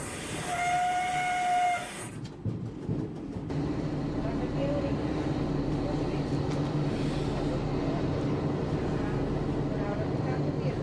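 A train's whistle sounds a steady, harmonic tone for about two seconds, followed by a burst of rhythmic clanking and then a continuous low rumble and hiss as the train leaves Frieira station.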